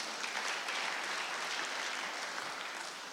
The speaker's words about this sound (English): Clap your hands for Jehovah God.